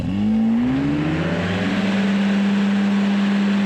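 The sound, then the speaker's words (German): The already running propeller engine of an ultralight aircraft revs up as the pilot throttles for takeoff, its pitch climbing steadily before settling into a loud, sustained drone, heard alone with no voices. “Aber sie folgen den Frauen tatsächlich bis zu einem Ultraleichtflugzeug, das schon mit laufendem Motor bereitsteht. Dort angekommen springt eine der beiden Frauen hinein. Der Pilot gibt Gas und hebt ab.”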